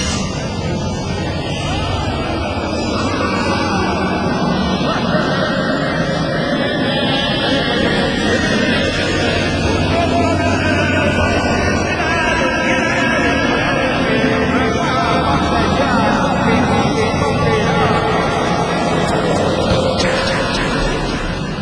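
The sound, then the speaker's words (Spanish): A purported 'sounds of hell' recording, reported by the Finnish newspaper Amenosatainda as screams and wails heard from the depths of the Earth: a loud, unbroken roaring drone with a murky, distorted texture and faint wavering tones, holding steady throughout with no clear speech. “la captación de sonidos que se conocen como los sonidos del infierno”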